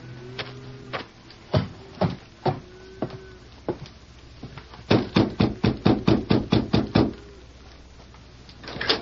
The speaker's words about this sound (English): Doesn't seem to be here in the yard, Victor. I'll have to knock on a door.